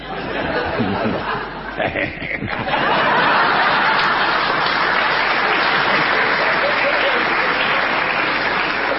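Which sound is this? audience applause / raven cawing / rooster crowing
audience applause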